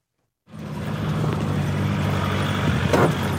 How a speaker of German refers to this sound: Mit Allradantrieb geht es über Schotterpisten in den Regenwald, bis die Straße so steil wird, dass es nur noch zu Fuß und per Maulesel weitergeht.